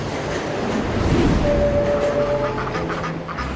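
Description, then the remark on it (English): A steady, loud rumble of a train with a car dedicated to livestock rolling along the rails, with a brief high metallic squeal of wheels partway through and a constant clattering wash of noise. No one speaks. “There is a train car dedicated especially to livestock.”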